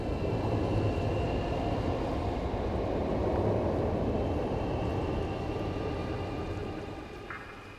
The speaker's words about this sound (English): A single glowing eye, purple-red at core, hot orange at rim, raced towards us, unstable in its nuclear heat. A train.